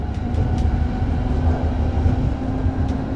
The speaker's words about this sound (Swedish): några som sprang mitt framför vagnen ringde med klocka där också som du hörde